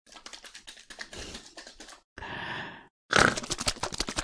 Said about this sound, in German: Ich möchte hier nochmal hier mein lachendes Schwein auf dieser Dose hier, das ich von Jonas bekommen habe. Können wir das Geräusch nochmal hören?